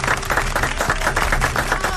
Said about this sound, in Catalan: Bueno, doncs escolta'm, doncs enhorabona, un aplaudiment. Sí, un fort aplaudiment, si us plau, clar que sí.